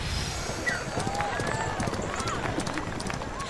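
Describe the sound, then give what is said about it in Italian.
Horses gallop in a chariot race at games held for a funeral, black horses racing fast: a steady, dense, loud rumble of many pounding hooves, with a noisy crowd and indistinct voices blending underneath throughout. “Hai visto come filano i cavalli neri? Il loro auriga è fortissimo, è una corsa fantastica.”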